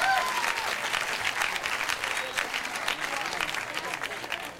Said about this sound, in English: How many non-smokers do we have here tonight? By round of applause, non-smokers.